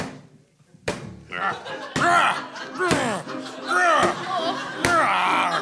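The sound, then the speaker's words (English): Five heavy, sharp punches land on a tree about once a second, each a loud thud, with strained vocal grunts and cries filling the gaps between blows. “Oh, you keep punching that mean old tree.”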